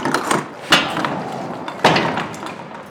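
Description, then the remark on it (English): Metallic rattling and clicking of a key working a lock, punctuated by two sharp, heavy clunks as the latch of a walk-in cooler for human remains, the size of a two-car garage, releases and the door swings open, with no voices. “Hopefully, this is the key that works for it.”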